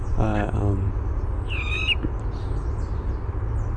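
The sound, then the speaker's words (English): A man's voice mimics bird calls, imitating a chickadee and two calls of a flicker: a quick run of buzzy, harmonic notes, then a single high, thin whistled call, all over a steady low rumble. “So he's going to imitate a chickadee or a black cat chickadee, a flicker, two calls of a flicker.”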